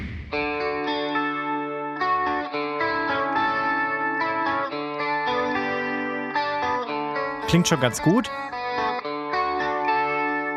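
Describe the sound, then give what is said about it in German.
A software-emulated Red Special electric guitar in a clean, undistorted tone plays a steady run of ringing notes and chords, with a brief sliding flourish near the end and a voice speaking briefly over it. “Das ist quasi die nachgeahmte Red Special im Clean-Modus, ohne Verzerrung.”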